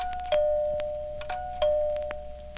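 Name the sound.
doorbell ringing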